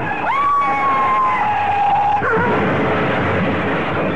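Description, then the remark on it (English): A police car chasing a car through traffic, its loud wailing siren holding a steady high tone, dropping, then rising again, over a constant roar of engine and traffic noise. No one speaks. “Oh, the police car's held up by the other car.”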